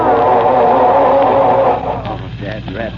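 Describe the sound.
A car engine cranks loudly with a steady churning rhythm as someone tries to start the car, failing to catch. After a moment it drops back and a voice starts talking over it.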